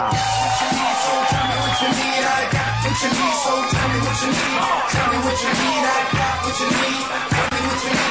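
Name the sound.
loud audience applause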